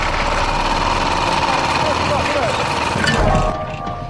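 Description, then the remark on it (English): A small lawnmower engine, just sparked up, runs roughly and unevenly for a few seconds, sputtering loudly, then splutters and cuts out near the end, leaving a quieter hush. “The engine spluttered and cut out.”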